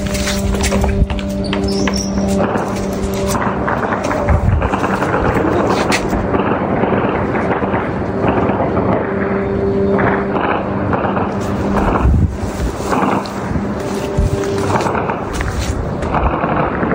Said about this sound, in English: And here are the sounds I recorded at about 5 o'clock this morning here in Lviv. You can hear that lawnmower-like sound of the Iranian Russian drones as they get closer. And then you'll hear the air defense doggedly trying to shoot it down.